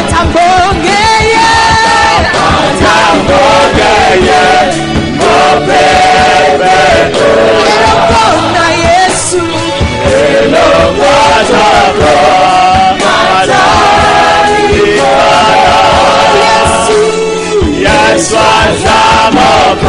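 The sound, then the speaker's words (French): An audience erupts in loud, sustained cheering and applause given as an offering of acclamation, with yells and whoops rising over a dense, continuous roar that holds steady for the whole stretch. “J'adore encore, donnons une bonne offrande d'acclamation.”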